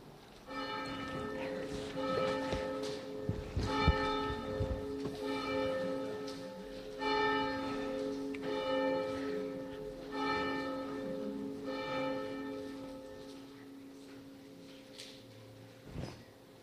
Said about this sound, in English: It is good to be here together, and we're going to hear some chimes.